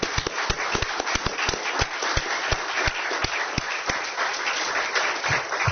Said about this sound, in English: So let's all join in a round of applause, not only for the congressman, but that entire group.